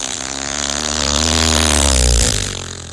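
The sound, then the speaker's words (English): A Volkswagen engine runs with a loud, throaty rumble, climbing in pitch as it revs for about two seconds before easing back down. No one speaks over it. “This Volkswagen...”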